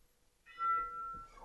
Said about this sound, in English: And there's the lunch bell.